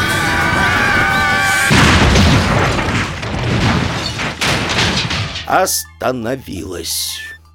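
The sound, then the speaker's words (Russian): A loud crash of a bed, racing onto a porch without slowing, smashing through the wall of a house bursts in after a tonal hum, followed by a long rumbling clatter of debris, then fading into short warbling vocal yelps. “Не снижая скорости, кровать влетела на крыльцо, пробила стену и, ворвавшись внутрь дома...”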